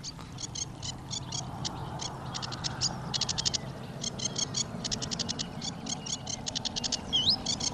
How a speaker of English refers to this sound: Yeah. That's proper singing. That is a song. That's a song. Sedge Warbler. That Sedge Warbler is in song. But it's not dawn, so it doesn't count.